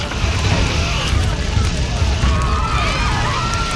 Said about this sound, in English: Fire explodes across the ceiling. It travels with astounding speed. The cloth on the ceiling is consumed in moments. Customers see the fire spreading across the room.